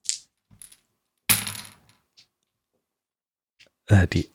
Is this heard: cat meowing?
no